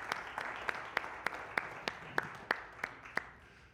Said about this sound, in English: Cool, let's give them a standing applause.